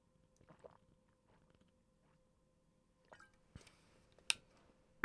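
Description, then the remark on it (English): Someone takes quiet sips of water at the mic, with soft wet slurps and small mouth clicks, then a couple of sharper gulping sounds near the end. No one speaks. “I'm going to sip some water here.”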